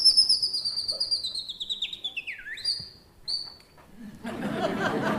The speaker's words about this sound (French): Le pinson du Sud-Ouest, lui, va rajouter une petite phrase à la fin. Démonstration.